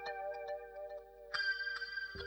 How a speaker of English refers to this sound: The ticking of the clock and the cradle rock.